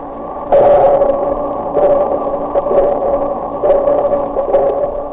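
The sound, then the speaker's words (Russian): Dolphin echolocation recording slowed down 32 times, with echoes reflecting off underwater objects, heard as a steady, droning underwater hum that swells and fades in several repeating pulses, loud and continuous with no voices. “Вы слышите эхо, отражающееся от подводных предметов.”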